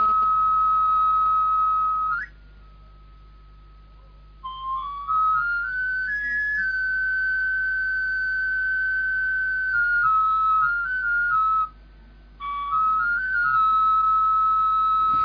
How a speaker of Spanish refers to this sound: Era el pregón del afilador.